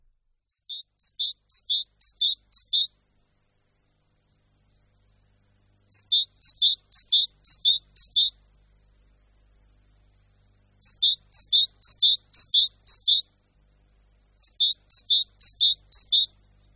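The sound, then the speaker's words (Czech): A great tit's typical early-spring song, from a lively little bird with large white cheeks, a glossy black head and a black stripe down its sulphur-yellow belly: four bright, repeated phrases of quick two-note chirps, each burst lasting a couple of seconds with pauses between, clear against a quiet background. “Hlas, který jsme slyšeli, je typicky předjarní popěvek Sikory Konjadry, známého čilého ptáčka s velkými bílými tvářemi na černé kovově lesklé hlavičce a s černým pruhem uprostřed sírově žlutého bříška.”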